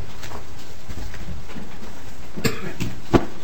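Two short, sharp coughs sound near the end, a moment apart, during a committee hearing, against a quiet background hum. No one is speaking.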